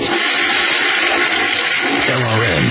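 A toilet flushes, a loud, steady rush of water that swirls and drains, ending with a gurgling, tonal refill sound in the last moments.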